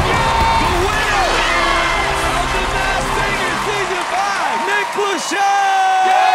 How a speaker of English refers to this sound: Y'all give it up. Make some noise. Clap, point, do whatever you gotta do. I got Piglet in the building, a.k.a. …. …!